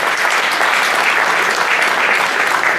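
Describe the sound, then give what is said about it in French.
Steady, dense applause from an audience fills the whole stretch, a loud wash of many hands clapping at once with no pauses and no voices standing out. The audience is applauding at a prize draw after the third prize, a Yves Rocher lot, has been drawn. “Des applaudissements s'il vous plaît.”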